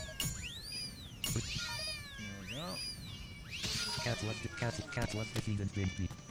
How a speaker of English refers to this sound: Alright, good. Now we'll spawn some cats.